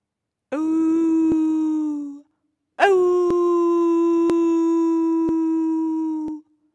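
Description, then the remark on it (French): A wolf howls twice, loud: a short sustained howl, then after a brief pause a longer, steady, mournful one that holds its pitch before cutting off. “Grand loup gris arrive avec une grosse, grosse faim.”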